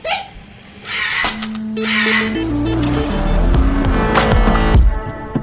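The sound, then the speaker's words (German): Busy street traffic with engines revving and droning, bursts of hissing and a squeal, continuous and fairly loud with no talking. “Wusste ich doch, dass du es durch den Verkehr schaffst, mein Held.”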